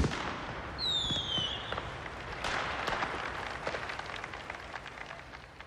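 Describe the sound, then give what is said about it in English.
A fireworks display: a rocket whistles briefly, then a steady crackle of small bursts and pops continues throughout, with no voices. “These pleasure garden venues always ended their gigs with a firework display.”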